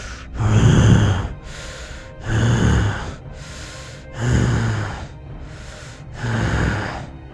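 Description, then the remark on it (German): A creature, some kind of monster, snorts at some distance ahead, heavy breathy snorts coming in a steady rhythm, four strong exhales alternating with softer intakes of breath, with no voices. “Du hörst in einiger Entfernung vor dir eine Art Schnauben.”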